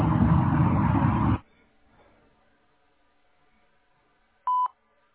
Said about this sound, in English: To leave an appointment for a HERS test or an air balance, please do so after the beep.